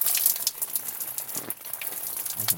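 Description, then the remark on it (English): Water patters and splashes steadily from a camping shower, a black water-filled bag hung in a tree fork and warmed by the sun, the water about 45 degrees; a dense hiss of falling droplets with a few brief louder splats and no talking. “Das ist der Schauertent. Oh, feels really nice. It's really warm.”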